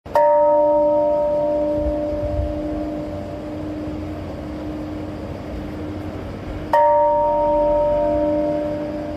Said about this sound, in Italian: Sono le 8:15, suona la campana della pace mentre il parco del memoriale di Hiroshima è raccolto in un minuto di silenzio. Sono trascorsi 80 anni dall'esplosione della bomba atomica.